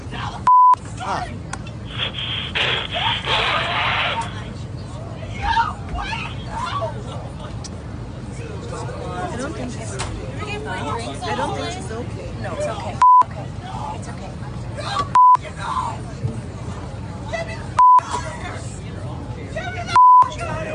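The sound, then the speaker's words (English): Five sharp, loud censor bleeps at a single steady high pitch cut in at irregular moments over a recording of muffled voices and background chatter. “Is it just me or is anybody else finding the bleeping highly distracting?”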